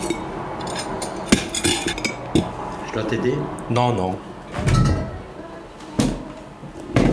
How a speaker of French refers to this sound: Je vais débarrasser déjà ça.